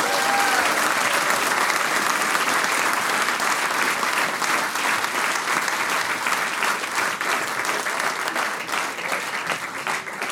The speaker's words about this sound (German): Das ist euer Applaus. Dankeschön.